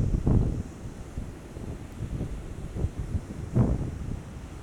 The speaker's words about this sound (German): Lass das Meeresrauschen in dein Ohr. Nimm die Geschichten wahr, die das Meer mit sich bringt.